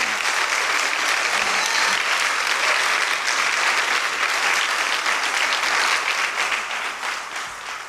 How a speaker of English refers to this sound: So give her a good hand clap as she comes.